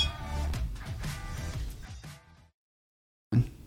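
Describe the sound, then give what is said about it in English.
Several glasses clink together in a toast in quick, overlapping strikes, their bright ringing tones lingering for about two seconds before fading into silence, followed by a brief low bump. “So raise your glass.”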